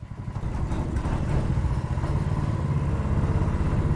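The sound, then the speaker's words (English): A small metal boat's motor drones steadily, a continuous low, throaty engine hum with a faint rattling clatter and no pauses, as the boat crosses a narrow brown river into Myanmar's Karen State. “I'm crouched down in a small metal boat, crossing the narrow brown river that takes you to Myanmar's Karen State, to a brand new city that's emerged like a mirage in just the past few years.”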